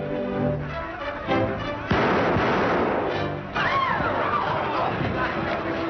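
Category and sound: impact, gunshots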